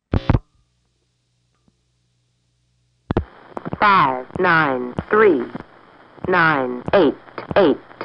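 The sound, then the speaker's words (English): A short click or tone, about two seconds of silence, then a clipped, robotic-sounding voice over a phone line reading back the caller's own number after dialing 958, the machine splicing each digit together with slight gaps. “My number, being read back by another machine that pieced together the digits.”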